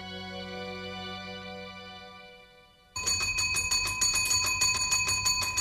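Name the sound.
bell ringing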